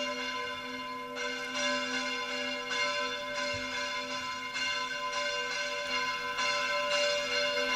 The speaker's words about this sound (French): On va laisser les cloches finir de sonner.